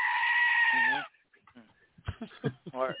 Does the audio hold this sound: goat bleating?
yes